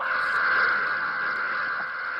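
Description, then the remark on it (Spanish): A group of people screams loudly and continuously, a dense, shrill wall of voices that holds steady at full volume for a couple of seconds. “Bueno, oye, lo que sí, gritar aquí, nos encanta gritar.”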